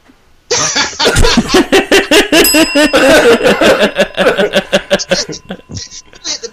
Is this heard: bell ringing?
yes